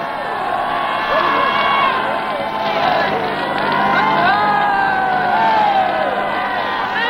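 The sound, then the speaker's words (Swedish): A large crowd cheers and shouts in the city streets of Copenhagen on the morning of liberation, a dense, continuous roar of many voices with rising whoops and calls layered on top, loud and steady throughout. “Vi åker in i ett jublande Köpenhamn.”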